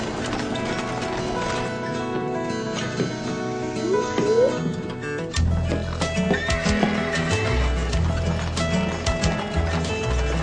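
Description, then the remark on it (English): A horse whinnies loudly, followed by a steady clip-clop of hooves on a hard surface, the rhythmic beats continuing for several seconds with no voices. “In the old days, they didn't have cars, and they had to travel by horse.”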